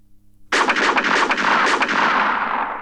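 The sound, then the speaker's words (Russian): After a moment of low hum, a rapid burst of loud pistol shots cracks out, the reports running together and trailing off in a long echoing decay. No voices. “Когда раздались пистолетные выстрелы, Вася рухнул на землю и спрятался за цветочную клумбу.”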